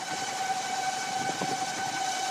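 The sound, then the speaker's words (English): A one-seat solar-powered airplane, with wings as wide as a jumbo jet and about 17,000 solar cells along its wingspan, flying, giving off a steady, high electric whine with layered tonal hums over a constant airy rush. The sound holds level throughout, with no voices. “And it also sounds a little different.”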